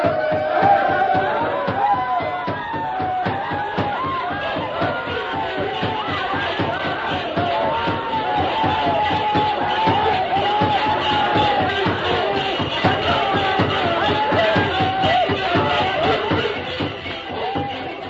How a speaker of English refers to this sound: Tonto knew the plan of the savages, and while they danced and shouted, working themselves into a frenzy, he slipped away unnoticed and joined the masked man.